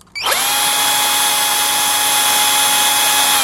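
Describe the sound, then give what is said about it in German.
A geared two-speed power tool motor starts up abruptly and settles at its base speed of about 17,000 rpm into a steady, loud, high-pitched hum with a constant whine and stacked harmonic tones, running without change and with no voices. “Das ist Grunddrehzahl vom Motor und die hat jetzt etwa 17'000 Touren.”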